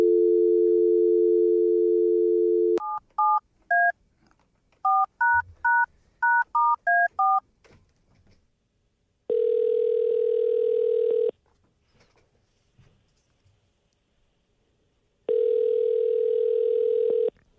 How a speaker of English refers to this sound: Let's give him a call right now and see if he picks up